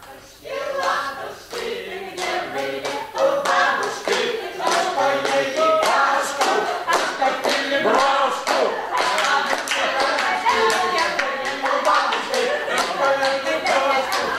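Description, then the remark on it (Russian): Steady rhythmic hand clapping for dancers at a railway station, fairly loud, with tonal music-like sounds running beneath the claps. An elderly stationmaster is among those clapping. “Старичок-начальник тоже хлопал в ладоши и поднимался на цыпочки, чтобы получше разглядеть танцующих.”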